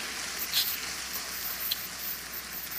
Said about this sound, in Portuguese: Ah, aleluia, aplauda aí.